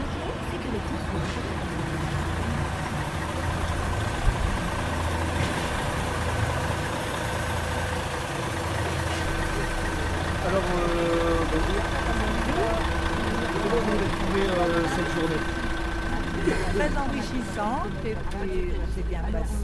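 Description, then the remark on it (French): A steady, low engine rumble idles continuously from inside a bus, with a constant droning hum and faint, indistinct voices murmuring underneath. “Au retour dans le bus, nous recueillons les impressions de nos accompagnants.”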